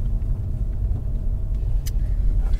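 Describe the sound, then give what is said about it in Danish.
A car rolls along slowly on a campsite, its engine a steady low rumble heard from inside, with a brief faint click partway through and no one speaking. “Nu kører vi på campingpladsen.”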